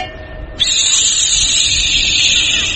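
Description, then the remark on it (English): A steam locomotive lets off steam: after a brief low rumble, a loud, steady high-pitched hiss bursts in and holds without a break to the end. “That's the steam.”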